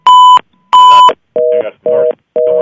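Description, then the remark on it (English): Five loud electronic phone-line beeps in a steady rhythm, two higher-pitched tones followed by three lower, buzzier ones, with short silences between them and no talking. “I'm hearing lots of beep.”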